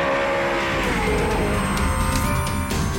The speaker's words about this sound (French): En fin de matinée, les premières voitures s'élancent sur la piste. Dans la grande tribune qui longe la ligne droite, face à une mer turquoise, les spectateurs déchaînés acclament ces monstres d'aluminium et d'acier.